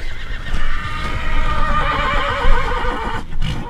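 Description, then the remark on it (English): A horse tied at a trailer at the Pinedale ski joring parking lot whinnies loudly, a long quavering neigh that wavers up and down over a few seconds, with faint outdoor rumble and shuffling beneath it. “Back at the Pinedale ski joring parking lot, horses are tied at trailers.”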